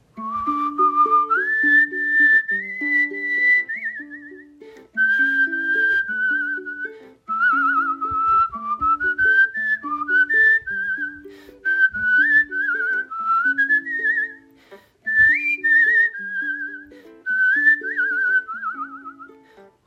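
A person whistles the But Why theme song, a bright, lilting melody sliding between notes over a bouncy plucked-bass and keyboard accompaniment, with short pauses between phrases and no talking.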